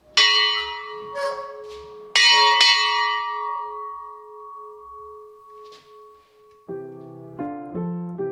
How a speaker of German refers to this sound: Und einer dieser Sammlungsstücke ist auch diese Glocke aus dem Jahr 1598 und die jedes Mal großes Entzücken hervorruft. Es ist laut.